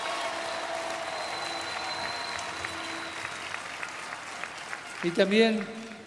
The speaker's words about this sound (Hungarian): Egy nagy tapsot nekünk, hangosan!